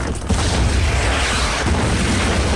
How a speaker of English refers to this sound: Now another tank barrels through a wall advertising U.S. Energy cigarettes. The cannon fires.